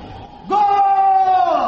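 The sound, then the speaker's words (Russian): A single loud shout in the street bursts out after a short stretch of quiet background noise, rising sharply in pitch and then holding as a long, steady, full-throated cry. “Вот Бог! Крик на улице!”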